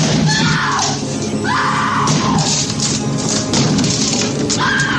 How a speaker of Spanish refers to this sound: intenta derribar la puerta del baño donde se esconden su mujer y su hijo.